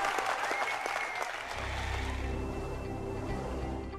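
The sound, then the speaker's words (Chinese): A large audience claps steadily in praise of God, a dense, loud wash of applause that continues throughout, with a low sustained droning tone entering partway through beneath the clapping. “我们一起鼓掌赞美神。”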